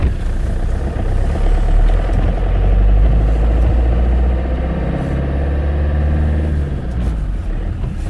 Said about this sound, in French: Alors on s'apprête à partir dans ce camion ben chargé de 2,5 stères de bois. Ce qui équivaut à 2,5 mètres de bois.